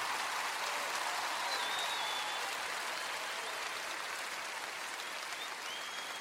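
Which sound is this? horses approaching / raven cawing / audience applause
audience applause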